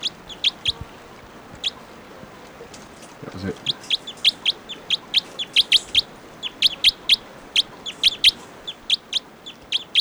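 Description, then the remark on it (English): A recorded call of a type 2 bird, bird 714, plays as a fast series of sharp, high chirps, repeated in quick rhythmic bursts over steady background hiss, with a brief spoken phrase partway through. “According to the type 2 bird here, is going to be bird 714.”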